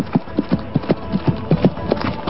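Horse hooves clip-clop in a steady, brisk rhythm, about a dozen distinct hits, with no voices over them, as Kiều Phong jumps onto his horse and whips it to ride away.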